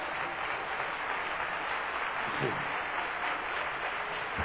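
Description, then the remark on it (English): A crowd applauds steadily, clapping their hands to the Lord during worship, many hands together in a dense, continuous wash of sound that holds at an even level throughout, with no voices standing out. “Let's clap our hands to the Lord right now.”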